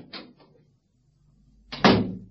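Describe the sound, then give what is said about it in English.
A short clattering rattle, a brief pause, then a heavy, solid thump as a door is shut and bolted, leaving a short rumbling tail. No voices. “I've just bolted the door.”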